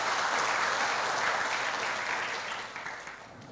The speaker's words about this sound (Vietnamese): Nếu các anh chị đồng ý với lời dạy trên của Đức Phật đó, trong đoạn kinh vừa nêu, thì các anh chị hãy cho một tràng vỗ tay thật lớn để cam kết nào.